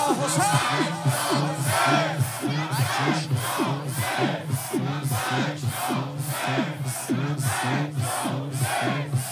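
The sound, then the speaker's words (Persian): A large crowd shouts the religious chant "Labbayk ya Husayn" in unison, with repeated loud syllabic bursts at a steady pulse, voices layered and continuous throughout. “فریاد بزن لبک یا حسین.”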